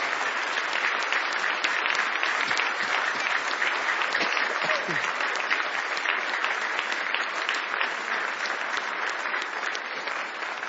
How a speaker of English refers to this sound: Do you love Him? Let's give Him a great hand clap of praise.